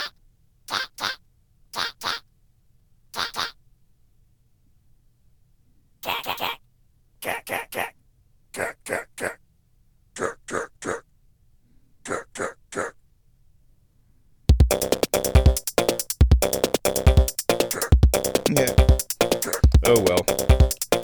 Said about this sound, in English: You've been listening to the Dubious Goals Committee, where today's dubious goal was just messing around with the pocket operator. And that's always fun.